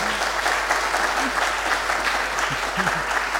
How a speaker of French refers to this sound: On peut effectivement vous applaudir parce que...